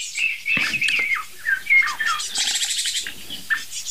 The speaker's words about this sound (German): Aha, ich weiß, was es ist. Es sind zwei Eichelherr.